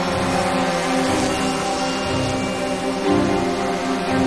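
A small drone's whirring rotor hum, loud, holds steady and continuous throughout, with a slight swell in intensity toward the end, as the drone lifts off from a field into the air, flown from a control panel.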